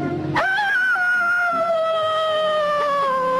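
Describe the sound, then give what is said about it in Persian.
A voice imitates a hunting dog's bay, the sound a hunting dog makes when it finds something: one long, drawn-out howl that starts abruptly, holds steady and loud for about three seconds, and slowly sinks in pitch, with no talking. “آخه ما سگوی شکاری وقتی چیزی پیدا کنیم این صدا رو از خودمون در میاری.”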